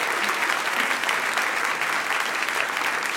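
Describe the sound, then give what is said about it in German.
Steady, dense applause from an audience fills the whole stretch, many hands clapping at once in a loud, even wash with no voices standing out, as a guest is welcomed onto the stage. “einen Applaus!”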